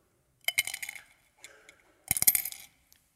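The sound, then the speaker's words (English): A couple of small bursts of bright metallic clinking, like a few coins dropping and rattling together, with a quieter jingle between them, without any talking. “their gold, silver, copper, and bronze coins. The larger the coin, the bigger the gift.”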